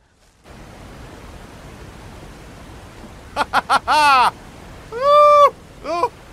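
A steady, hissing rush of waterfall noise rises in after a brief silence and continues throughout, with a few short, loud voiced exclamations breaking over it near the end.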